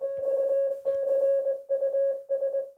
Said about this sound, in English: Okay, I'm going to play Excuse Me in Morse code.